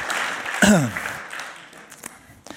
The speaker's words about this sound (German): Okay, Applaus für die Jungs.